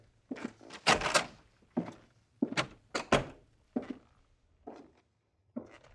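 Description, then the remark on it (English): A door is opened and shut, with a series of sharp clunks and rattles of the latch and frame. The loudest thuds come early, then quieter knocks trail off, with no voices. “you may leave by that door.”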